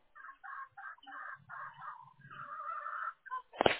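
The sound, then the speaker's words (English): Chickens and a rooster in a half-acre ranch-style backyard: repeated harsh bird calls in short bursts, then a longer drawn-out squawk, with a few low clucking sounds underneath and a sharp knock at the end; moderately loud, no talking. “I hear chicken and rooster.”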